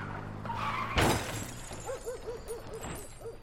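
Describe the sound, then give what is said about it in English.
A car's tyres screech in a short skid as it pulls into William Mews while it is still dark, then a loud crashing burst like shattering glass, followed by scattered, fainter rattling noises as things settle. “it was still dark when our car skidded into William Mews.”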